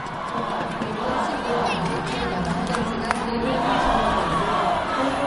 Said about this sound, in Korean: 연일 우리는 하나다, 통일 조국, 코리아 이겨라를 외치며 단일팀을 응원한 관중들은 단일팀의 첫 골에 기쁨을 감추지 못했습니다.